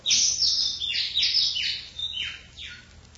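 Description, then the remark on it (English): A bird at a window chirps in a quick, repeated series of bright, descending tweets, about eight notes over a few seconds, fairly loud with no talking. “Get away from that window. You know, I'll fix that bird.”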